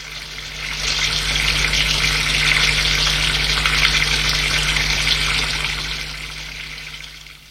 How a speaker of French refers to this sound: Va dans la salle de bain pour prendre sa douche.